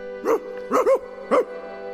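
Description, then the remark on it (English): An angry dog barks four times in short, sharp bursts, with a quick double bark in the middle, over a faint steady hum, moderately loud. “That dog is gonna bite. Watch that dog.”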